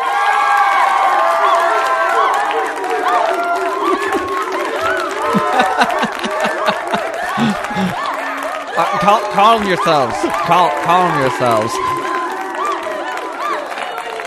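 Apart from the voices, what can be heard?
audience cheering and clapping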